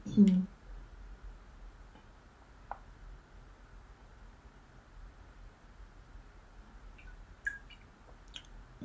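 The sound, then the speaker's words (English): Someone sips water, with a few soft, scattered mouth clicks and a faint gulp spread across a quiet stretch and a low background hiss. “And it's doing, excuse me, it's doing, I'm just gonna grab a sip of water.”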